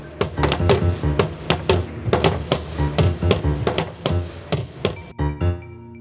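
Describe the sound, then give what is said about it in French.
Lockers being closed: a quick run of sharp, resonant bangs in an uneven rhythm, loud, ending with a couple of final slams and a lingering ring. “Son de la fermeture des casiers.”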